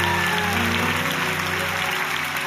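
A crowd applauds with steady, dense hand clapping that fills the whole stretch at an even, loud level, with a low sustained hum underneath.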